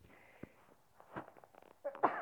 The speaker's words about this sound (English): I'm going to sneeze.